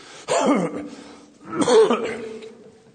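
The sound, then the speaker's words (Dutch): A person clears their throat twice because of hay fever, each a rough, raspy burst lasting under a second, separated by a short pause, with no other sound around them. “Dat is geen hoest, geen verkoudheid, maar een hooikoorts.”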